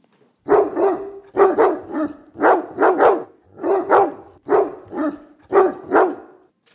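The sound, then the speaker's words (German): A dog named Herr Müller barks repeatedly in quick doubled bursts, about a dozen loud, mid-pitched barks in a steady rhythm, edited together for a guessing game about how many times he barked, with no one talking. “Herr Müller hat ja gerade gebellt.”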